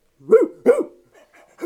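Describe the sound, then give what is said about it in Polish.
A dog barks twice in quick succession, loud, with a short pause before a third bark starts right at the end. No one speaks. “Wtedy scyzorykiem wyciął dziurę w torbie i zachowując wszelkie środki ostrożności, zaczął skradać się w stronę, gdzie pozostawił psa.”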